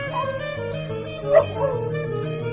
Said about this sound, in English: And then silence. Somewhere off in the distance, a dog barks.